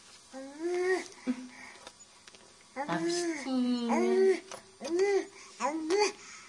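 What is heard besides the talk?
baby babbling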